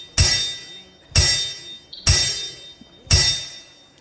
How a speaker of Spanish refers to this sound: Iglesia, esos son los sonidos, el martillar de los clavos en la cruz del Calvario. Ese es el sonido del amor de Dios para con tu vida, el amor de Cristo.